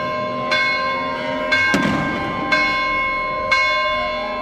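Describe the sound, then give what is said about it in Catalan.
Church bells ring out in a steady, evenly spaced peal, about one strike per second, each tone lingering with a rich hum; a brief burst of noise cuts in midway. The bells are rung to open the town's main festival on Thursday the 13th. “Dijous 13, comença la festa gran, amb repic de campanes i llançament de coets.”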